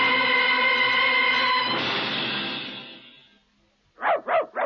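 A steady droning tone fades into silence, then a dog barks three times in quick succession, loud, with no talking.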